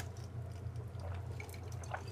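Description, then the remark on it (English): Soft liquid sounds of champagne being poured or sipped during a toast to Michael Bennett, with small scattered drips and fizzy pops over a steady low hum. The sounds are quiet, and no one speaks. “It's good champagne.”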